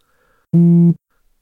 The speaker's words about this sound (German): Mein Handy vibriert. Einmal. Ich nehme es aus meiner Hosentasche.